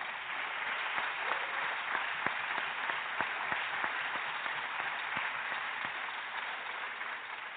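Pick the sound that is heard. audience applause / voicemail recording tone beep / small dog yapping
audience applause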